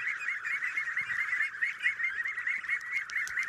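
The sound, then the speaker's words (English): A crowd of young ducklings peep and cheep continuously in a shallow pen with low wooden walls on grass, their high chirps overlapping into a steady, busy chorus, with no one speaking. “For these first days, at least, they only have eyes for their new duck dad.”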